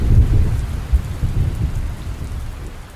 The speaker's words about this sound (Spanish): me llevé a Piggy a casa al día siguiente, bajo una terrible tormenta eléctrica.